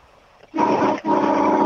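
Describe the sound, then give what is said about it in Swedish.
A loud, blaring truck horn, sounded by a phone caller on the P4 radio show Vaken med Petro, blares in two long blasts, a steady low-pitched honk with a brief break between them, after a moment of quiet. No one speaks. “Musik i mina öron när du kör den där lastbilstutan.”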